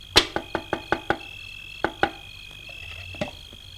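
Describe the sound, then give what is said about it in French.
Knocking on the wooden door of a dilapidated, almost ruined cabin, first a quick run of six raps, then after a pause two more, and finally a single knock, crisp over a faint background hum. “Elle s'approche de la cabane qui a l'air bien délabrée, presque en ruine. Frappe pas la porte.”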